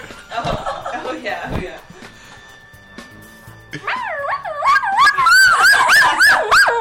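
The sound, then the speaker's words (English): A woman imitates a cat, making wavering vocal meows that rise and fall in pitch, quieter at first, then louder and more drawn-out yowls in the second half, with a little purr at the end. “Let's hear what this pussy sounds like.”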